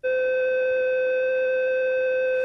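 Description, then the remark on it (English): A steady electronic caution alarm tone from the International Space Station, from recordings posted by the European Space Agency, sounds continuously and loudly, a constant pitch with bright harmonics and no variation, holding unbroken for the whole stretch with no voices. “So this is the caution alarm.”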